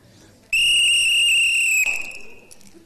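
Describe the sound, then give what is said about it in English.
One long, shrill blast from a life jacket whistle, a steady high piercing tone held for over a second before cutting off and fading away. “What is built into every life jacket? A whistle. There it is. That is a whistle.”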